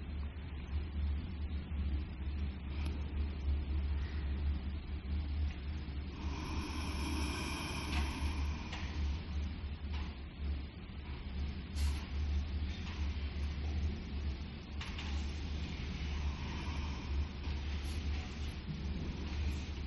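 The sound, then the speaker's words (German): A vacuum cleaner runs without pause, a steady droning roar with heavy low rumble and broad hiss, briefly picking up a higher whine partway through. No one speaks. “Und das Geräusch vom Staubsauger kann einfach auch da sein.”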